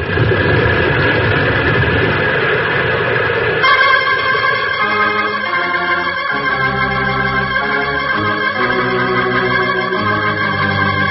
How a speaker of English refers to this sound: Avalanche. Side of the mountain's coming down. It's going to block the entrance.